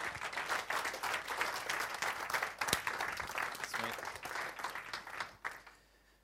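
An audience breaks into a sustained round of applause, dense overlapping claps with some cheering mixed in, holding strong for about five seconds before thinning out.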